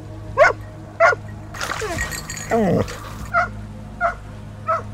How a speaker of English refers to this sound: Barking at the water.